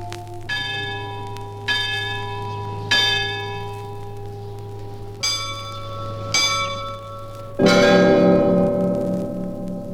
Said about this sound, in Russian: Вот это звон будничный, так называемый. Он очень музыкальный, но в то же время его звонить надо темп. Вот что. Его начинали, бывало, редко, а потом сводили так часто, что получается разлив красивый с красивой.